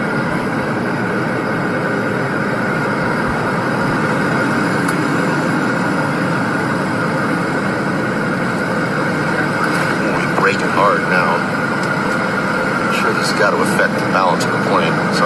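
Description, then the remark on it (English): A loud, steady roar of an airplane rolling down the runway after touching down, with a constant heavy rumble and a few brief clatters and squeaks toward the end as it brakes hard. “Touchdown any second, and the nightmare will be over. And they hit the ground.”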